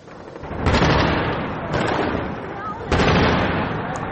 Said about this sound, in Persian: پدافند هوایی مستقر در اطراف دفتر آیت الله خامنه ای از روز دوشنبه به سوی یک پهپاد شلیک کرد.